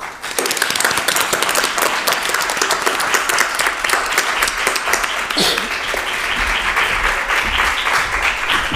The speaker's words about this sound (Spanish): Les pido un aplauso y doy la bienvenida